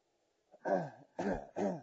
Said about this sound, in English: And a cough. I've had this for years. And I had sinus problems. And I have a very weak voice.